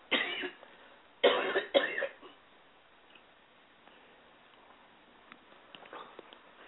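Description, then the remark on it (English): A cough at the start, then a louder burst of two or three harsh, rough coughs, followed by quiet shuffling and faint rustling noises. “That's enough to make you cough.”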